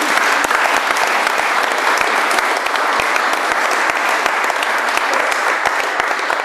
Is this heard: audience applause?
yes